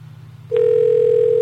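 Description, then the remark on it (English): A low steady hum gives way to a loud, continuous telephone dial tone after the phone is dialed, starting abruptly about a third of the way in and holding unbroken to the end, with no voices. “I dialed the phone.”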